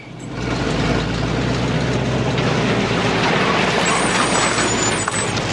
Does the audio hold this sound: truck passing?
yes